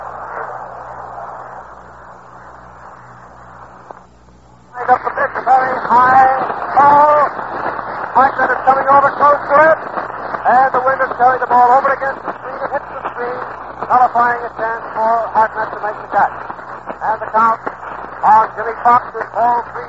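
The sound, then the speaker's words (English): A large baseball stadium crowd stands and roars for Joe Medwick's long home run into the upper deck of the left field stands, which puts the National Leaguers ahead 4-0. After a few seconds of faint hiss, a dense, loud wash of many voices swells in and holds steady to the end. “Listen to that crowd for a moment.”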